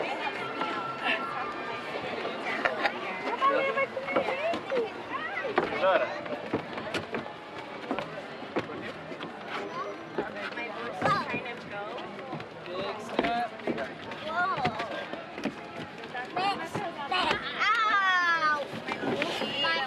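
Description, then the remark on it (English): A crowd of passengers boarding a Storybook Land tour boat, moving forward and filling both sides of the boat: steady overlapping chatter, shuffling footsteps and scattered thumps and knocks, with a busy, continuous bustle throughout. “Let's get all the way forward, please, folks. Filling in both sides of the boat”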